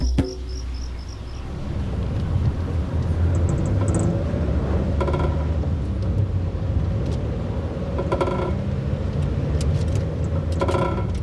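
A car drives along steadily in third gear on the way home, its engine a constant low rumble, with faint insect chirps and occasional clicks over the top. No one speaks.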